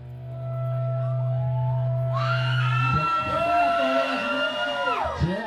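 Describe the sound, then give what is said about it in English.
A steady low hum gives way to a large concert audience erupting into loud, high-pitched screaming and cheering that holds for several seconds, with many shrill voices layered together, recorded for a live album. “Up here, so if you want to scream, making a live album.”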